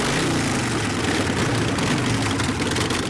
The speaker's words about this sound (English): A couple dozen Chinese guys dressed in black leather park their Harleys.